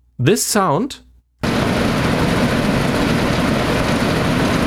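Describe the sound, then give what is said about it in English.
A steady, dense mechanical roar with a low rumble and broad hiss from an outdoor air conditioning unit attached to a building, recorded outside in front of the window where the unit is mounted, preceded by a brief burst of a voice with rising and falling tones. “This sound is the air conditioning recorded outside in front of the window where the AC is attached to.”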